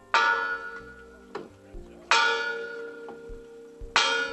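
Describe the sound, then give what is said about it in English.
A church bell at St. Francis of Assisi Roman Catholic Church in Los Angeles tolls three times at a slow, steady pace, each loud, resonant strike ringing out and fading into a long shimmering hum before the next. “St. Francis of Assisi Roman Catholic Church in Los Angeles.”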